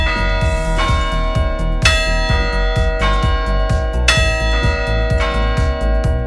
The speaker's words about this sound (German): Und weil er praktischerweise gegenüber von der Kirche mit der Turmuhr wohnt, hat er auch immer im Blick, falls die Uhr mal falsch geht. Damit die Glocken in Hammer-Eisenbach immer zum richtigen Zeitpunkt schlagen.